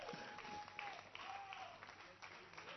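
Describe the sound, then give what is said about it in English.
An audience claps together as a clap offering in steady, dense applause for a few seconds, the crackling of many hands loud and continuous, with faint voices calling out underneath. “Another clap offering.”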